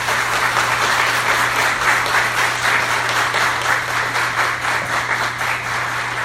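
An audience applauds the Lord during a church message, a dense, steady wash of many hands clapping at once that holds at an even, fairly loud level throughout, with no voices breaking through.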